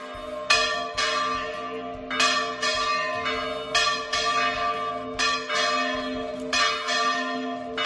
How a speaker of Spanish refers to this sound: Bueno, pues además lo que ha pasado es que las campanas de las iglesias han repicado hoy a las 12 en una especie de toque de esperanza por el mundo rural.